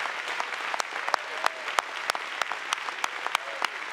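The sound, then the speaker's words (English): A standing audience claps steadily and continuously and shouts, a dense wash of hand claps with sharper individual smacks popping out, while faint voices call out beneath the applause. “Visitors, I'm sorry we stand and shout and clap a lot.”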